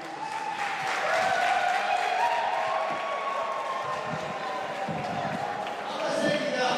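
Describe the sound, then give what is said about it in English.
A large crowd of event attendees cheers and claps at news of police protection on their way out, a sustained, loud roar of many overlapping voices that holds steady for several seconds, with no single speaker standing out. “Relieved, many attendees cheered the news.”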